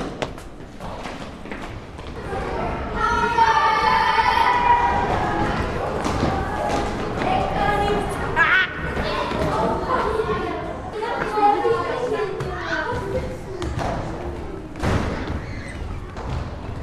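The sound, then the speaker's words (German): A loud, steady hubbub of schoolchildren's voices overlapping as they play during school break, with shouts and calls rising above the din and scattered thumps and knocks throughout. “In der Pause kann es ganz schön laut werden, weil alle Kinder Spaß beim Spielen haben.”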